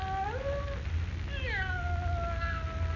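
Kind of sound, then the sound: animal, cat meowing plaintively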